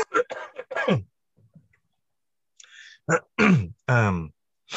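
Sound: throat clearing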